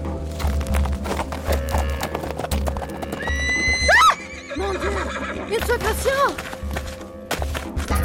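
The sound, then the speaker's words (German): A horse, struck with a whip by its rider as it is ridden out of the bushes, whinnies loudly with rising, wavering cries over a steady, rhythmic clip-clop of hooves, ending with a few shorter snorting neighs as the hoofbeats continue. “In diesem Augenblick versetzte ich meinem Pferd einen Schlag mit der Peitsche und ritt aus dem Gebüsch heraus.”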